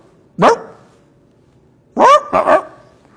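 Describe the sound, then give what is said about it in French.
A human voice imitates a turkey with three short, strained squawks: one rising yelp, a pause of over a second, then two quick calls in succession, fairly loud against a quiet background. “Je fais très mal le dindon, mais vous avez compris l'idée.”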